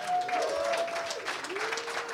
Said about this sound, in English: We're going to bring out Richard Hunter, Frank Mir now, and Adam Hunter. How about a round of applause for them?